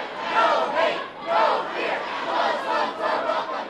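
crowd, protest crowd chanting

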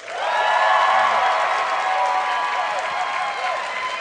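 crowd, audience applause and cheering

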